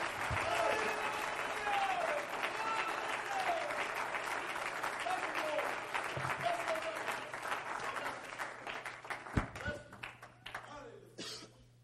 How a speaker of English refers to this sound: Would you clap your hands to the Lord tonight for just a moment?